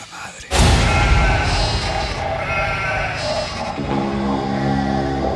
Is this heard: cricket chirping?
no